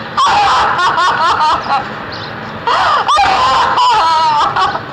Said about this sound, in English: Because the scream is not to anyone except the viewing audience, it feels like really honest.